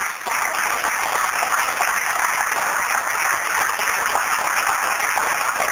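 An audience applauds to welcome a guest, steadily for about six seconds, a dense, even wash of many hands clapping at constant loudness, with no voices over it.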